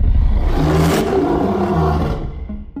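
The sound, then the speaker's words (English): A loud, sustained monstrous roar with a deep, growling low end and harsh rasp, rising and falling over about three seconds before trailing off; a modern recreation of King Kong's 1933 roar, made from lion and tiger growls played in reverse with a few human grunts, with no talking. “Then what they did was reverse the tape and sprinkled in a few human grunts.”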